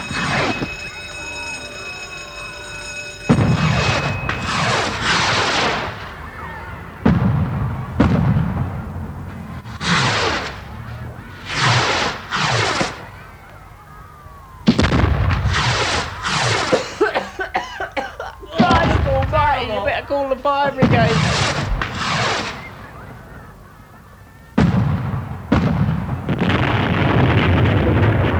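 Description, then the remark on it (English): A box of fireworks that has caught fire goes off, a long run of loud bangs and crackling bursts at uneven intervals, with a brief steady tone at the start. “Look, that pile of gems has caught fire. Look out. It's next to that box of fireworks.”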